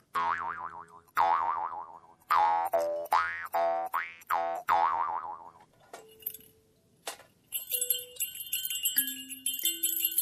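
A jaw harp twangs through a quick series of loud plucks, its buzzing tone wobbling up and down in pitch, then gives way to bright, high, sustained ringing tones with no talking.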